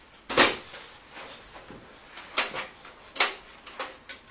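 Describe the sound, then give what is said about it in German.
A toy cash register drawer is opened and shut, making a handful of sharp plastic clacks and small rattles at irregular intervals, with no voices. “Das ist eine Kasse.”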